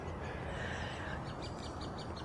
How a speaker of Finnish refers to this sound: Linnunlaulua täällä tosiaan riittää, mutta jos oikein korvia höristää, niin tuossa kuuluu semmoinen pieni tasainen hyrinä myöskin.